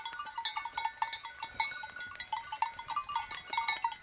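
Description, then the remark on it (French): A large herd of goats and ewes grazing in a meadow at Nivitsa in the Balkans, their many bells clanking and jingling continuously at an uneven rhythm, with no voices. “le vautour égyptien apprécie beaucoup les prairies comme celle de Nivitsa et ses grands troupeaux de chèvres et de brebis”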